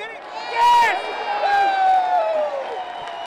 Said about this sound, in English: Despite the lack of offense for the home team, the crowd was full of cheers and jeers.